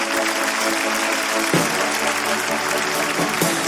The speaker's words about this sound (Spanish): Increíble, un aplauso.